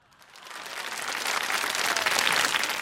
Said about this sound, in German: klatschte so heftig, dass ihre grauen Löckchen ins Wippen gerieten.